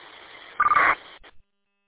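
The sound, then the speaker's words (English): A harsh, buzzy digital data burst, added by a BTEC UV Pro radio at the end of a transmission, cuts through steady radio hiss, much louder than the background, followed by two quick clipped blips before the channel goes silent. “One of them is putting a data burst at the end of my transmission.”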